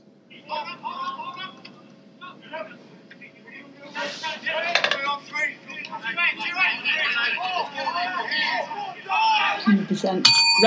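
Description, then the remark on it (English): Rugby players at team training shout line-out calls, several voices overlapping in brisk bursts of calling that grow louder toward the end, with a sharp clatter at the close. “Is that a line-out call? That was them in team training, seemingly.”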